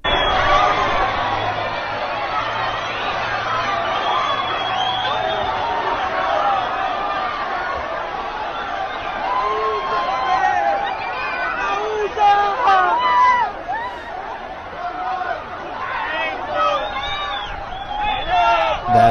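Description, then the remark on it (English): A large crowd of at least 1,000 people mills about, a dense, steady wash of overlapping voices and chatter with no single speaker standing out, swelling with a few louder bursts toward the end. “Instead, it's about 1,000 plus, at least 1,000 is how it's been described, of folks who don't belong in the country.”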